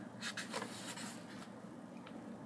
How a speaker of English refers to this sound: I'm turning the pages here.